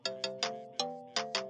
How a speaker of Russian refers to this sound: О, СМС.